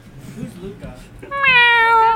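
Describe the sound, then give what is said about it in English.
A person mimics a cat with a single loud, drawn-out meow that slides gently downward in pitch, preceded by a brief stretch of low, muffled vocal sound. “Meow. Meow.”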